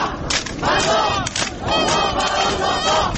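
A large crowd at a French demonstration against same-sex marriage chants the slogan "One mother and one father for every child" in unison, loud and rhythmic, with repeated phrases rising and falling over a dense background of many voices.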